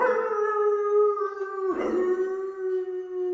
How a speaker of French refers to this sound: Ce chien, il aboie comme n'importe quel chien. Moi, je trouve quelque chose de déchirant. Et moi, je trouve que c'est pas déchirant du tout.